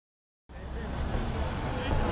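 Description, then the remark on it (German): A bus pulls up, its engine a steady, loud low rumble with broad road noise, starting abruptly after a short silence and holding for the rest of the moment. “Schau, dein Bus kommt.”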